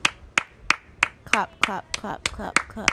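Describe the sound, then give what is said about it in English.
Roughly nine sharp hand claps from a woman on a balcony clapping into the air land in a steady, even rhythm, crisp, while indistinct voices murmur underneath through the second half. “She's looking at nothing. Clapping into the air. Clapping.”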